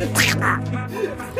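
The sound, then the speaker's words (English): A person imitates Donald Duck in a raspy, nasal voice, squawking a quick run of quacky, garbled syllables, fairly loud, for about a second. “You really get the Donald Duck in there.”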